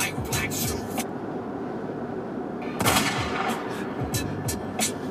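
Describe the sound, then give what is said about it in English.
Several sharp, loud gunshot cracks burst out at irregular intervals at the opening of a song, with the biggest blast in the middle, all over a dense, rumbling low-end roar like a battle scene. “I used to have this song set as my phone alarm, like when I would have to wake up in a hotel room or something, because that opening gunshot's really good.”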